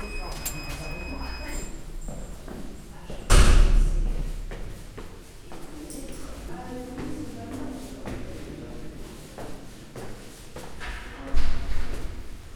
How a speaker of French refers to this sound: La porte est ouverte.